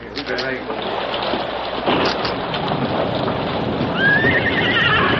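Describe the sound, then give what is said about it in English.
Steady, dense rain hisses throughout, loud, while a horse whinnies briefly near the start and again toward the end. “And the worst of it is it's starting to rain.”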